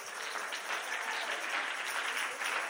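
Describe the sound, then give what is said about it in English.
A crowd of people clapping steadily, a dense wash of many overlapping hand claps at an even, sustained loudness with no pause, and no voices standing out. “Everybody over here is clapping.”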